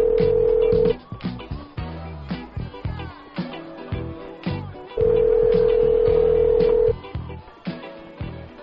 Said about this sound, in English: Okay, I'll call her back. Hang on. Yeah, please. See if she picks up. Call the Department of Foreign Hackers.